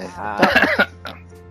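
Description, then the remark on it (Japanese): A fairly loud fit of several harsh coughs in rapid succession, trailing off into one softer cough after a brief pause. “今咳込んだせいで”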